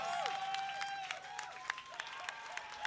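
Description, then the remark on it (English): An audience applauds at a moderate, steady level, with scattered sharper claps and sweeping whistle-like tones above the clapping, and no one speaking. “That wasn't an invitation for applause, but I do appreciate it.”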